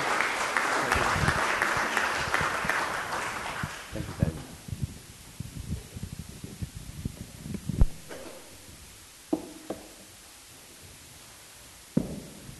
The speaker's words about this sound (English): Let's give our youngsters a round of applause, please. There you go, back to your seat.